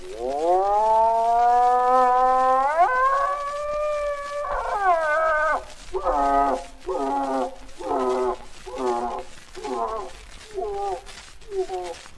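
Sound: bull elk bugling call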